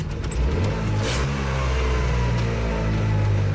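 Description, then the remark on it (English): An East German Trabant car's small engine revs loudly with a buzzy, throbbing drone, heard from inside the car, its pitch climbing as the car pulls away, then settling into a steady running hum. No one speaks. “One of the famous symbols of East Germany is the Trabant car, and we are sitting inside one right now.”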